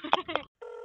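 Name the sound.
answering machine beep tone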